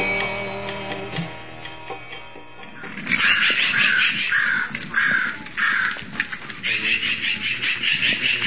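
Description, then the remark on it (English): Crows caw loudly and repeatedly in San Francisco, California, in June 1975, harsh calls coming in quick overlapping bursts after a quieter opening, as if several birds are calling. “That is crow.”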